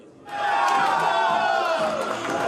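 A crowd of football fans in Kryvyi Rih, watching their team's match away from the stadium, bursts into loud, sustained cheering, many voices roaring and shouting together in a dense wall of sound that holds steady after a sudden start.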